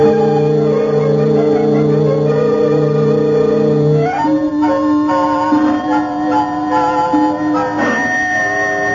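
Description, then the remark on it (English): A doorbell rings with sustained, steady tones that shift in pitch a couple of times, loud and continuous for several seconds with no voices. “Oh, now why doesn't Mrs. Murchison answer that bell?”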